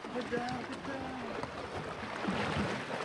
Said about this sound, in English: We splash our way onto the island.